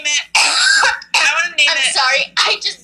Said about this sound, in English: But am I dying? I'm sorry for that coughing fit there.